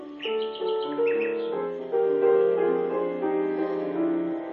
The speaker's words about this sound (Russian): А соловей залился еще громче, еще слаще. Пение его так и хватало за сердце.